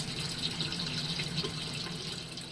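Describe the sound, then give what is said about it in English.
Water filtering through gravel trickles and drips steadily back into a fish tank in a system where fish waste fertilizes bib lettuce plants, a continuous splashing patter with a bright, hissy edge and no voices. “That waste acts as a fertilizer for bib lettuce plants, and the water filters through the gravel to drip back to the fish.”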